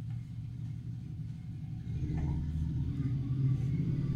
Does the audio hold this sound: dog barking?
no